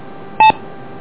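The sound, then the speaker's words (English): A single short electronic beep on a radio transmission, loud and clean, made of two steady tones, cutting through a faint background hiss of radio static. “That sounds a little strange, too, with the beep on this.”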